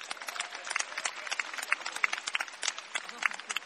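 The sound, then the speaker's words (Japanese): An audience applauds the two players about to play a darts final, a dense patter of many hands clapping at once that holds at moderate loudness for the whole stretch, with a few sharper claps standing out. “これから戦う2人にもう一度大きな拍手をお願いいたします。”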